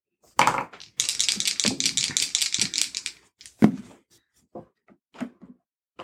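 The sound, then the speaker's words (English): Dice clatter and rattle across a hard table in a quick, dense burst lasting a couple of seconds, followed by a few scattered knocks and taps as they settle, fairly loud. “Gee, my dice don't hate me tonight.”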